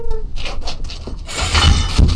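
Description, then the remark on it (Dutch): A cat meows, a couple of drawn-out cries blending into broader, noisier rustling toward the end, fairly loud with no talking over it. “Poesje, mam, kom eens gauw. Ik heb lekker melk voor je.”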